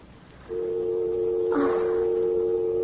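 A faint background hush gives way, after half a second, to a steady telephone dial tone as a call is hung up, humming on continuously, with a brief rustling clatter partway through. No one speaks.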